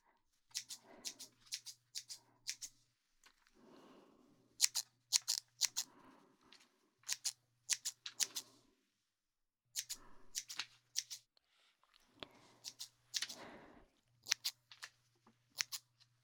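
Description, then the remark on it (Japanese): Crisp scissors, handled by a young woman, snip in quick bursts of several cuts, pausing between clusters, with a faint low hum underneath and no talking. “お姉さんのハサミさばき、美しくて驚いたろう。”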